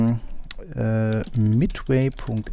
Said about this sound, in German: Er tippt hier gerade. Ja, ist natürlich total super, in so einem Podcast hier in einer Shell rumzutippern.